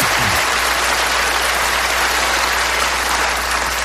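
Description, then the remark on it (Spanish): Sustained applause from a large audience at the Oscars ceremony as the best actor award is presented, a dense, steady roar of clapping that stays loud and even throughout with no voices standing out. “A ver, después de los aplausos.”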